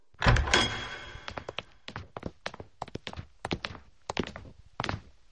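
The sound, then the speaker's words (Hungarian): A heavy door thuds open, followed by a quick, uneven patter of footsteps as two young people waiting outside come in, crossing a hard floor, with no talking. “Itt várnak kint az ajtó előtt. Gyertek be, fiatalok!”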